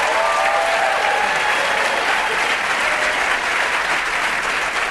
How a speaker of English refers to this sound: I wish every time I picked up the phone I had applause like that.